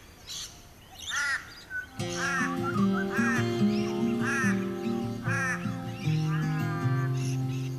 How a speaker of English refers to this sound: the sun confidently oblivious and the birds filling the morning with noise.